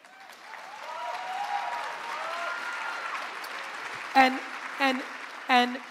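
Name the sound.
audience clapping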